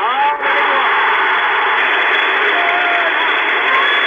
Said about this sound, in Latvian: Wolfermans nulekā paņēmis tikai šķēpu rokā, bet stadionā jau sāk skanēt aplausi. Nu, skatītāji palīdz savam jūlīt šķēpu.